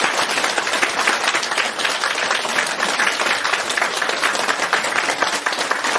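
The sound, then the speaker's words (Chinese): Loud, sustained applause from a large crowd welcoming Master Lu Junhong, a dense steady wash of many hands clapping at once for the full six seconds with no voices standing out. “我们现在以热烈的掌声欢迎卢军宏台长。”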